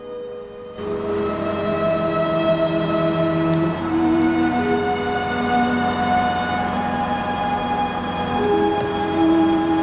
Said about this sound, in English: As he gets nearer, a bus pulls up at the stop.